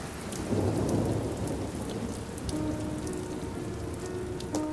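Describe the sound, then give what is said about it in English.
Steady rain pours down with a dense, hissing wash, and a low rumble of thunder rolls underneath. A few faint tonal notes drift in partway through. No one speaks. “As she walks off in the rain towards the palace with her two ladies in waiting, he stands watching her with his hands behind his back.”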